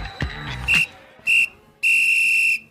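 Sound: whistling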